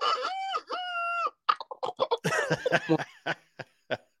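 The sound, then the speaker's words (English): A person's voice imitates a rooster crowing in two drawn-out, bending calls, fairly loud, followed by a quick string of short, choppy vocal bursts. “And I even done a rooster.”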